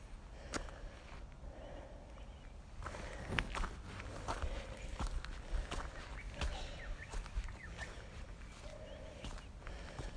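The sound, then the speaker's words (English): Steady footsteps crunch along outdoors at an unhurried walking pace in damp air, moderately loud, over a constant low rumble of open-air background noise. No one speaks. “Ooh, maybe I'm not quite as fit as I have been, or maybe it's just that there's a bit of a dampness in the air which we haven't had for a while, and I always find it a little bit harder to walk in.”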